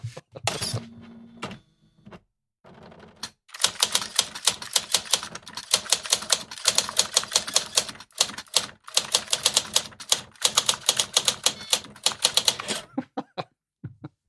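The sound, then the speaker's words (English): A 1980s Olivetti electric typewriter clatters in rapid, steady bursts of sharp keystrokes, with a motor hum and a few clunks at the start, fairly loud with no one talking. “The sound of a 1980s Olivetti electric typewriter brings us seamlessly into Carew by Steve Teshich.”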